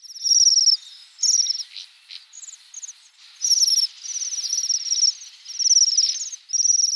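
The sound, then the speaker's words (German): High, thin trilling calls of Bohemian waxwings sound in repeated overlapping bursts, like a small flock buzzing softly to one another, steady, with no voices. “Das ist nämlich ein sehr nordischer Vogel. der teilweise, wir haben den schon mal erwähnt, als Invasionsvogel in sehr, sehr kalten Jahren aufgrund von Nahrungsmangeln in Deutschland einwandert.”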